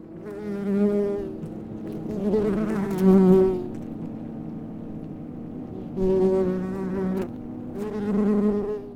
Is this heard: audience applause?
no